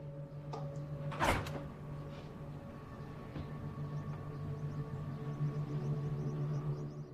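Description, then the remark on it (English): A man opens a refrigerator door in a kitchen during the day: one sharp clunk, followed by a few faint clicks and light rattles of bottles inside, all over a steady low appliance hum with no voices. “He walks in, opens the fridge, and looks inside.”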